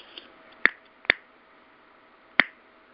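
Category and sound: human body sound, finger snapping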